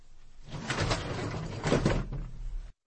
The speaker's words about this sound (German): Als Chol die Tür zum Lehrerzimmer öffnete, trat ihm plötzlich Herr Park entgegen.